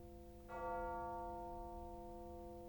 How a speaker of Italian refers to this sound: Uccel, la squilla vicino il rito annunzia.